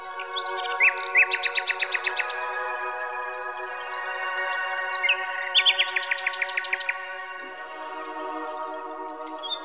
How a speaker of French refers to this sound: Et dans les branches d'un arbre penché au-dessus des flots, habitait un rossignol. Le chant mélodieux de cet oiseau charmait tous ceux qui avaient le bonheur de l'entendre.